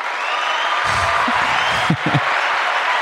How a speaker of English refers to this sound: Round of applause.